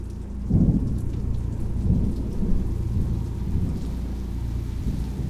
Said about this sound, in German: In der Ferne donnert es. Dunkle, fast tintenschwarze Wolken verfinstern den Himmel. Bald zucken über den Baumkronen Blitze. Windböen treiben eine Regenwand vor sich her. Plötzlich ist die Sicht gleich null. Es gießt wie aus Kübeln.